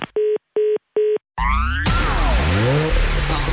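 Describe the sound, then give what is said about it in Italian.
Three short electronic beeps, then a rising whine into the loud engine roar of a brand-new car, its pitch sweeping up and down as the car drives past at speed. “Auto nuova fiammante col suono nuovo, è il DAB Plus che si sente a tuono.”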